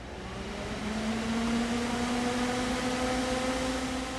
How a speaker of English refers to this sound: Slowly, theaters across the country are installing digital projectors, and the sound of turning one on is merely the hum of a fan keeping the bulb cool.